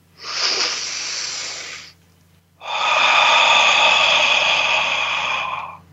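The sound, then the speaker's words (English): A slow, deep, conscious breath: an airy inhale lasting about two seconds, a brief pause, then a longer, fuller exhale of roughly three seconds, with no talking. “So on the count of three, just begin a conscious, loving breath.”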